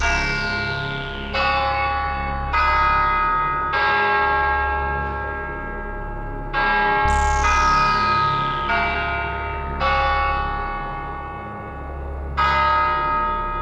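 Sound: bell being rung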